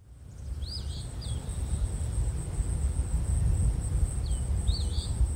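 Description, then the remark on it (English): An eastern phoebe's raspy two-part song phrase, given twice several seconds apart, over a steady high insect drone and low wind rumble outdoors. “And now we'll give a listen to the eastern phoebe.”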